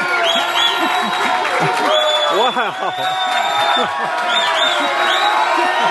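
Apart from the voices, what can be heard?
audience applauding and cheering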